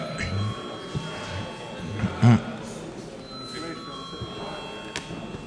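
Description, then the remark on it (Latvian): A parliament chamber's bell, rung before a vote requested by deputies, sounds as a steady, sustained electronic tone, with faint background murmur and a brief low thump partway through. “Deputāti prasa balsojumu, lūdzu zvanu.”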